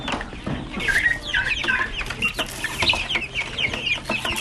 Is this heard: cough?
no